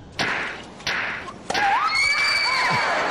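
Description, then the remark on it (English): Three sharp, loud smacks of a firm spanking land at an even pace, each with a short ringing tail, then high wavering yelps and whoops rise up after the last one. “and after assessing the situation and studying her closely, we believe the best course of action is a firm, strong spanking.”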